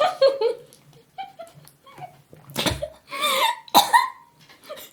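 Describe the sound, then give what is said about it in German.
A person splutters with strained, choked vocal noises, then breaks into several loud, harsh coughs in an irregular burst, after choking while trying to slurp a drink. “Ich wollte das trinken durch ein Schlürfen. Wollte ich ja machen, habe ich der verschluckt dabei.”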